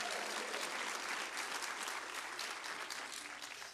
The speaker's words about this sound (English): If anyone celebrates that with me, if so, why don't we clap our hands together and praise Him for that.